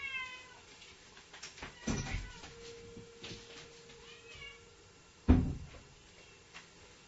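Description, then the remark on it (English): A cat meows, a drawn-out cry followed by softer mews, while a couple of sharp wooden thumps, like a cupboard door knocking shut, break in. No one speaks. “The cat's letting me know that it's time to go.”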